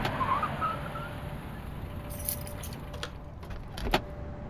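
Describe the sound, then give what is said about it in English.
A car engine idles with a steady low rumble and a faint whine, then metallic jingling and a few sharp clunks, like a door or keys, as a man steps out of the car. No one speaks. “When he stepped out of the car, I could tell he was shaken.”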